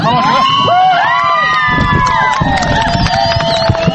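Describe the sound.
A large crowd of fans of Afghanistan's national women's football team roars and cheers continuously at their team's first goal, scored in the 20th minute of a friendly match against a NATO women's team at a sports club in Kabul, with high whistles and excited shouts rising above the dense, loud wash of voices throughout.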